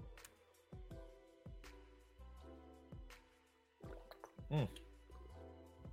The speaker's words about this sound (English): Oh, water hits the spot.